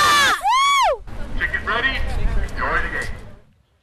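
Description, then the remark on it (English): A crowd at a spring baseball game in South Florida cheers and roars, opening with a loud, high, arching whoop before a broad swell of massed shouting voices rises, peaks, and fades away in under four seconds. “The crack of the wooden bat hitting the ball, the boys of summer decked out in full uniform under the vibrant South Florida sunshine, the smell of hot dogs grilling, and the sound of the crowd roaring, this is baseball.”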